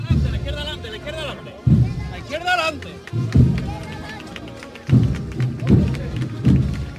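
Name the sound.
crowd applauding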